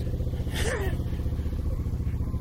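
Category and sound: vehicle, motorcycle passing by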